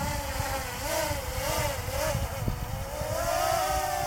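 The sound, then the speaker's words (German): A small toy drone's electric motor whine revs up and down in wavering pitch sweeps, a steady buzzing drone that rises and falls repeatedly before climbing higher near the end, as the drone is held in a hand and given full throttle again. No talking. “Da hält sie die Drohne in der Hand und er gibt nochmal Vollgas.”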